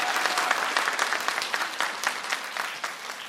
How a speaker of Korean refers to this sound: 여러분들 성우의 모습과 목소리 연기를 한꺼번에 듣는 기회 흔치 않습니다. 뜨거운 성원의 박수 한번 부탁드리겠습니다.